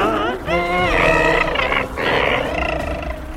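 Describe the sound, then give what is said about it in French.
A loud creature growl blending squealing, dolphin-like cries with a creaky, door-hinge groan, its pitch sliding up and down across two long bursts separated by a brief dip. “On aurait dit un mélange entre un cri de dauphin et une porte qui grince.”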